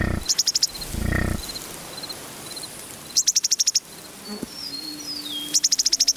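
Prairie grassland ambience from the windswept American and Canadian plains, recorded by Lang Elliott and Bernie Krause: bursts of rapid, pulsing insect chirps over a soft, steady wind-like hiss, plus a brief low rumble near the start and occasional faint calls.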